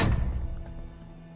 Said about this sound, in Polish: O, zamknęła drzwi.